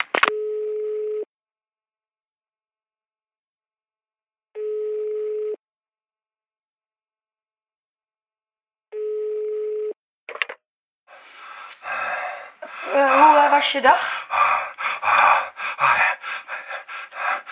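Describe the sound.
Three evenly spaced telephone ringing tones, then a line picks up and heavy, rasping breathing gasps loudly into the receiver, with a brief spoken word mixed in.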